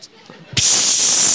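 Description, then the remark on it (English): After a brief soft murmur, a voice abruptly breaks into a loud, sustained hiss that mimics an iron frying pan sizzling, holding steady until the end. “They're going to be sizzling.”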